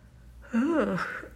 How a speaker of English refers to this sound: God, sorry. I didn't mean to yawn.